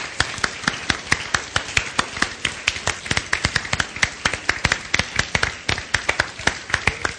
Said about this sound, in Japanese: Big clap, big clap. All right.